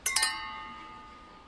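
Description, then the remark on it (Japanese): Glasses clink together in a toast at a gathering, three quick bright taps in a row whose high ringing tone lingers and fades. No voices. “それじゃ乾杯。”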